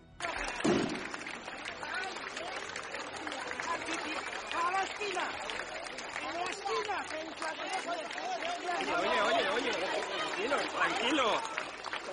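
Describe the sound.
A large outdoor crowd of hundreds of people, including children with their parents, fills the streets of the town of Oñate with dense, continuous chatter, cheering and applause, welcoming released ETA member Xabier Ugarte. A sharp firecracker bang comes near the start and voices swell toward the end, all loud.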